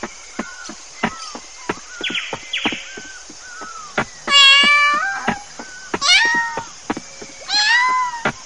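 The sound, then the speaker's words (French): A cat meows three times, loud, each call drawn out and falling in pitch, with scattered clicks and knocks in the background before the first meow. “Ah, le chat.”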